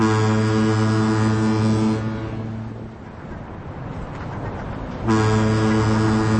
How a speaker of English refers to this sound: Right here is one of our fog horns. We have two of them down here, one on the east side, one on the west side. We've always had foghorns here at the bridge since it was built. Not much changes in foghorns, they just make noise.